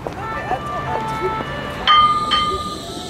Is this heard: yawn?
no